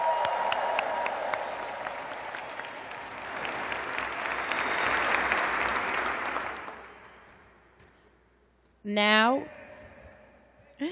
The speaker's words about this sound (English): I think we can make a louder applause for our young leaders.